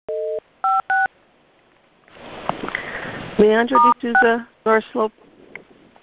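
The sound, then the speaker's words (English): Three short, clear telephone keypad tones beep in quick succession at the start as star 6 is pressed to mute a phone on a call, followed by a stretch of line noise and muffled, indistinct voice sounds. “If you don't have a mute button on your phone, star 6 should do it for you.”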